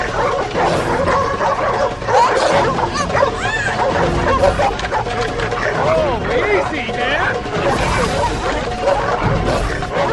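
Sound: dogs barking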